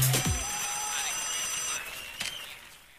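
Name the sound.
whatsApp call ringing tone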